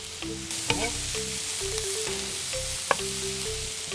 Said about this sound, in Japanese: 今日はあの舞茸もちょっと入れましたので、それから椎茸はスライスするで、ちょっとサランダ油でちょっと炒めます。 フライパンの中に入れたきのこに下味塩コショウをつけます。